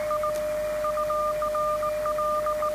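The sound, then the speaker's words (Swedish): Radio Morse code (CW) from another station keys out in short and long beeps, the receiver tuned to exactly the same tone and frequency, against a steady continuous tone, with a constant hiss of static underneath and no voices. “Här har jag lagt mig precis på samma ton.”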